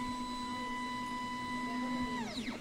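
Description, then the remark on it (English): A 3D printer warming up hums with a steady electronic motor whine, then its pitch bends and slides downward near the end as the motors shift. No one speaks. “Oh, yep, it's working. The printer takes a minute to warm up.”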